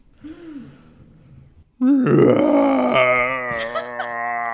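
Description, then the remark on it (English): A person vocally imitates the roar of a 20-foot-tall chihuahua: a low breathy groan builds, then bursts into a loud, sustained, strained growling bellow with a rough, rising pitch lasting several seconds. “It releases a terrible roar.”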